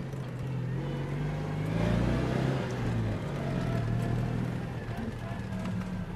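The two-cylinder boxer engine of an old car, first built in 1948 and sold in Switzerland from 1949, runs steadily with a low, throbbing idle, swelling briefly as if revved, then settling back into an even putter throughout.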